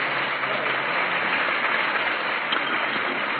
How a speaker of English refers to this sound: Naturally, the act is met with a great deal of approval from the audience, as you can hear by the applause.